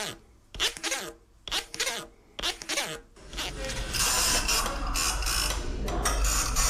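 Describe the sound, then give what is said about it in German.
Grooved leather cards from a patented Creaphone play set, with coarse and fine grooves of different lengths, being played: four short, scratchy ratcheting strokes, then a longer, denser rasping buzz as the grooves are scraped steadily, fairly loud with no voices. “Mit dem Namen Creaphone hat er ein Spielset entwickelt. Drin hat es Lederkärtchen mit Rillen.”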